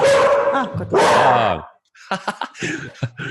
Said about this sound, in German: Also die Hunde wollen auch alle sagen, heute zu dritt, deswegen besonders laut. Oh wow, du hast... Darf ich vorstellen, es gibt heute Morgen Käthe, Miller und Bibi an meiner Seite.